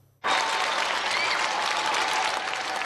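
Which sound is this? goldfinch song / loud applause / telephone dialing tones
loud applause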